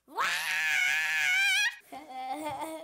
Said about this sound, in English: Number 3. Sometimes you just gotta scream.